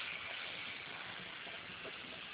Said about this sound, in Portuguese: Tá entrando num túnel, querido? É, a torneira.